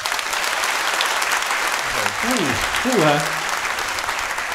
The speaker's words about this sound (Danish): Nej, du har fuldstændig ret, min ven, fordi det er en podcast, så må jeg meget gerne altså, give jeres mening til kende ved at klappe igennem showet.